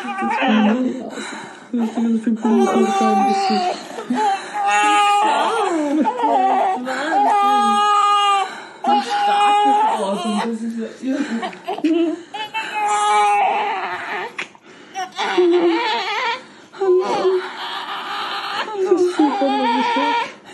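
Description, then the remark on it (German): A newborn baby in its first minute of life cries in loud, repeated wailing bursts, each cry rising and breaking off with short gasping pauses, continuing steadily throughout. “Und hier haben wir noch eine Aufnahme der ersten Lebensminute deines Babys”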